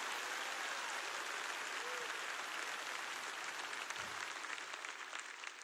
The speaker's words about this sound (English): I need somebody to clap your hands like you believe the promise today.